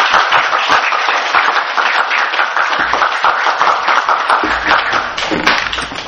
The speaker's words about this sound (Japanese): 皆さんで感謝の拍手をお願いいたします。